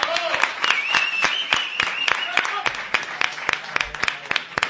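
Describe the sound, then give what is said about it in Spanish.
An audience applauds a carnival group with a steady burst of loud, overlapping clapping that carries on for several seconds, with a few voices and whoops rising over the claps. “Un aplauso para ….”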